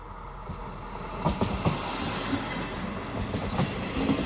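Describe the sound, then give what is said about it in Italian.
A train rumbles along the rails at steady loudness, with a broad continuous roar and a few sharp clacks from the wheels over track joints. No voices. “Arrivando in città col treno o passeggiando appena fuori Porta Romana, dove c'è l'ufficio del turismo, si inciampa nelle ultime due cornici di questo viaggio.”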